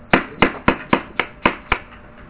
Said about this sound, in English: So, we really thank you. We clap hands for you.